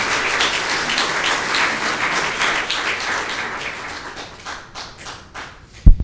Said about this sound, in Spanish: ¿Por qué no le damos un aplauso a Dios por nuestras manos?